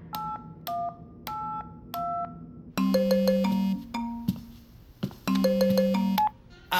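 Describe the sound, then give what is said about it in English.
Someone's mobile phone ringtone plays alone with an incoming call: a few short, evenly spaced two-tone beeps, then a louder, fuller melodic tune that repeats, bright. “Is that a phone? That's someone's phone.”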